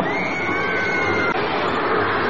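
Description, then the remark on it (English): A steady, diffuse roar of a large stadium crowd on the west side of a stadium in Vancouver, British Columbia, with the stadium lights out, continuous and even throughout with no single voice standing out. “Noise of district crowd on the west side.”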